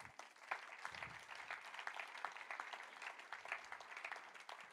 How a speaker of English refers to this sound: It's worth a hand clap, that.